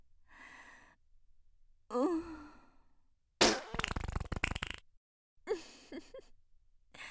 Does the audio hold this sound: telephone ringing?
no